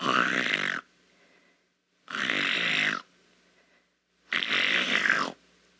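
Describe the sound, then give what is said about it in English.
The wolf from Little Red Riding Hood, asleep on the bed, gives three loud, drawn-out snores. Each lasts under a second with quiet pauses between, rasping and nasal in a steady rhythm, with no talking. “After the wolf had filled his belly, he lay down on the bed, fell asleep, and began to snore very loud.”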